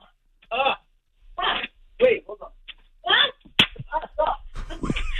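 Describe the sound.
A single sharp, loud slap cracks out amid bursts of muffled talking, short and crisp like a hand striking skin, followed by more voices and clatter.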